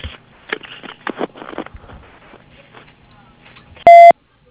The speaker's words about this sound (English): If you need to leave a message, please do so after the beep, and we'll get back to you as soon as possible.